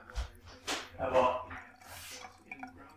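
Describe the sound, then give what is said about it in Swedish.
Water splashes and trickles in short bursts as someone fetches a glass of water for themselves, as if filling it at a tap, with a few light clinks and soft, indistinct voice sounds. “Och nu hämtar du glas vatten till dig själv.”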